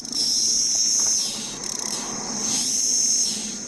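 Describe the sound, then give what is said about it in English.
A dense, droning chorus of periodical cicadas of a 17-year brood, newly emerged from the ground in the Pittsburgh area of southwestern Pennsylvania, a loud steady buzzing whine that swells and dips in waves, with no voices present. “That's the call cicadas make not long after they emerge from the ground like zombies.”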